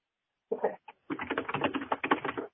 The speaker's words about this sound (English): is typing with the speed of a hyena, and I appreciate that.